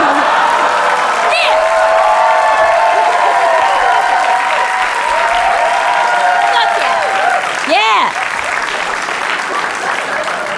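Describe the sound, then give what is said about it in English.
Sustained applause from a crowd giving a standing ovation, a dense steady clatter of clapping for about ten seconds, with whoops and shouted cheers rising over it and a brief swell near the end. “You got a little bit of a standing ovation.”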